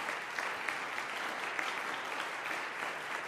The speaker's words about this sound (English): Standing ovation by this capacity clarinet-loving crowd here in the Fine Arts Center Recital Hall.